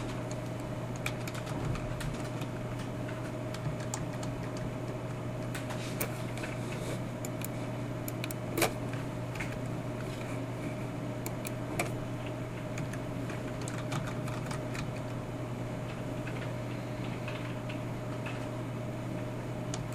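Steady clicking of keys on a computer keyboard as someone types in code from a book. The irregular taps continue for the whole stretch over a constant low electrical hum, with no one talking.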